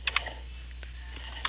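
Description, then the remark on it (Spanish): Quiet keyboard typing as someone writes a WhatsApp message: a few soft, irregular key clicks, a quick pair at the start, a lone tap midway and another burst at the end, over a low steady hum with no voices. “Listo, entonces le voy a escribir un momentito, por favor.”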